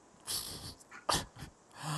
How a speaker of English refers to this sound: How dare you? You made my dog growl.